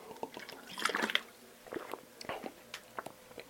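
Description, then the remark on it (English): Someone takes a swig of water: wet, squishy mouth and liquid sounds with a brief burst of gulping, followed by a few softer clicks and swallows, no talking. “Let's take a swig of water real quick.”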